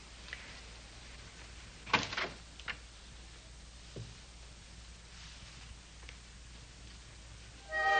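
door opening

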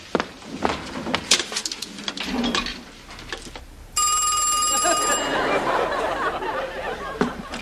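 telephone ringing

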